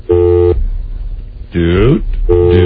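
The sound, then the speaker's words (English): A telephone busy signal: two loud, steady electronic tone bursts with a pause between them, and a brief voice-like warbling sound in the gap. “What's that? What is that? Come on now, hold on a second. Phone?”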